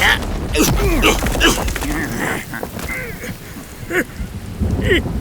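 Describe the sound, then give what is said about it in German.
Steady rain of the rainy season hisses throughout, a dense wash of noise, while loud quacking, honking cries break in repeatedly over it at irregular intervals. “So wenig die Steincreatures den Regen mochten, so sehr kam er dem Schattenpanther zu Hilfe.”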